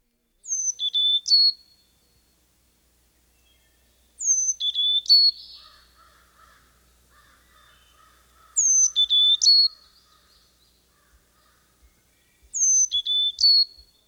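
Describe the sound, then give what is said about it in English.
A Carolina chickadee sings four clear, high whistled phrases in a variation of its song. Each phrase dips and lifts, with pauses of a few seconds between them, against a quiet background. “A variation of this song is Phoebe, Phoebe.”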